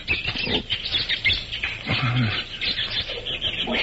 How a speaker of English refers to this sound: Monkeys certainly steamed up about something. Them see something and make them afraid.